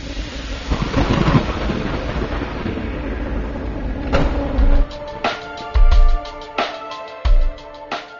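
A thunderstorm with deep rolling thunder and a steady rain-like hiss, followed by several sharp, loud cracks and booms in quick succession, with no voices.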